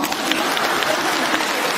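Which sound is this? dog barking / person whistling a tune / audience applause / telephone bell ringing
audience applause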